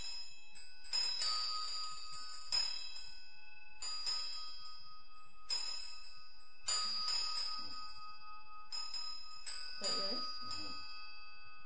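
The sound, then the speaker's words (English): A hand bell is rung slowly in a steady series of strokes, each bright metallic tone lingering before the next, with a faint voice briefly underneath near the end. “So then when you're going to ring it slowly, which is you do, what you do when you, when it says ring the bell once, one line, you just go like this.”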